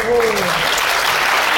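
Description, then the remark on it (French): A group claps together in a dense, steady burst of applause for initiative in a game, lasting a moment and a half, with a brief voice rising over the start before the clapping carries on alone. “Les applaudissements d'initiative, c'est merveilleux ça.”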